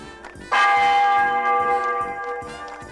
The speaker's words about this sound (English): Ring out the church bell.